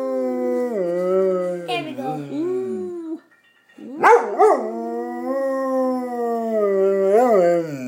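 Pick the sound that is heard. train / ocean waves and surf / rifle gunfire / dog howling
dog howling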